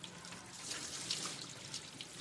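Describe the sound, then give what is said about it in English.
Water pours steadily and spatters against cellophane stretched over the top of a vase, so it won't go in, a continuous hiss with crackly splashing bursts and no talking. “So I don't know if you can see very well, but there's actually cellophane on top of that vase there. This one, actually. And as much as they tried, the water just wouldn't go in.”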